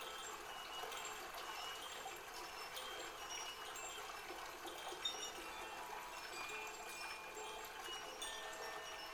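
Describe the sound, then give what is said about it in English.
Steady, soft rushing of river water trickling continuously, a gentle, even flow with no pauses and no voices, fairly quiet. “And while you're lying in that river, you can feel the air on your body.”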